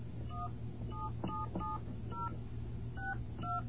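A rapid series of telephone keypad tones as a phone number is dialed, about seven or eight short beeps in an uneven rhythm, played clearly over a low steady line hum with no talking.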